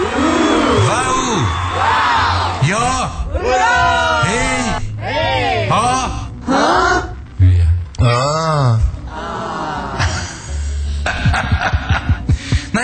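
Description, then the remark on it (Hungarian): A few voices imitate a roaring, cheering crowd with loud, repeated rising-and-falling whoops and howls, continuous for several seconds, with no real crowd behind them. “Hát ünnepeljük meg, hát üvölcsön a tömeg!”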